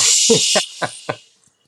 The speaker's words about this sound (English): Did you hear the fajitas going by?